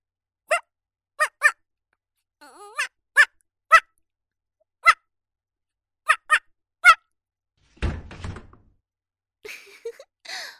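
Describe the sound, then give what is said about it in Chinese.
A person imitates a female dog's barking with a run of short, sharp yelps in an irregular rhythm, followed by a brief thud and some faint rustling near the end. “聪明吧，血母狗叫很像是吧，你家主人都被我骗过了，以为是条骚母狗进来了呢”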